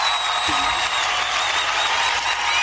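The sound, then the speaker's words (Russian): An audience claps steadily after a sung prayer song, a dense, sustained wash of applause from many hands that stays even and fairly loud throughout, with no voices standing out. “Ну, от, власне, навіть аплодисменти тут зробили для вас.”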